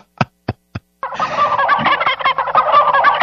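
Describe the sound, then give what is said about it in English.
Three sharp knocking taps, then a loud, rapid, warbling turkey gobble rattles on continuously for a couple of seconds, dense, with no voices. “I never like chicken coops or chicken yards.”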